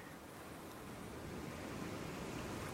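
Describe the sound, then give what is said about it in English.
Ocean surf washes steadily onto a shore, a continuous hissing roar that swells slightly louder toward the end, with no voices present. “They told me that you'll be down here, on the beach, watching the sea.”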